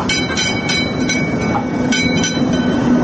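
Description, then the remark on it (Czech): An electric tram in Sarajevo, a replica of the first electric tram built in Austria-Hungary in 1895, rumbles along its rails, loud, with a steady low roar and regular clacking bursts from the wheels, plus a faint thin metallic ring of its bell. No one speaks. “Iz tog tramvajskog zvona s početka 50. godina prošlog stoljeća sjeća se jedna Sarajka.”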